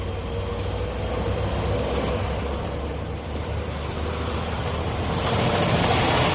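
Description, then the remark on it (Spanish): Street cleaning vehicles rumble steadily with a low engine drone while a broad hiss of water spraying the streets runs throughout, swelling slightly louder toward the end, on a quiet early-January 2022 morning with little traffic. No one speaks. “Coches de la limpieza, se regaban las calles, silencio en general, no mucho tráfico,”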